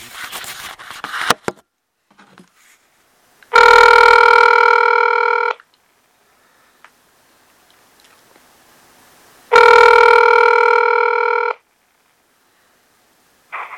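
An outgoing phone call's ringback tone, from a call placed on March 17th at about 4 o'clock, sounds twice, each steady buzzing ring lasting about two seconds with a long silent gap between, clear and fairly loud, after a brief burst of handling noise.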